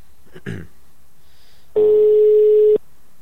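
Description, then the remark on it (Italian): A phone line ringing on an outgoing call: one steady, buzzing ringback tone lasting about a second, loud and clear, preceded by a brief muffled noise and otherwise near silence. “Speriamo che risponda. Ma sentiamo squillare.”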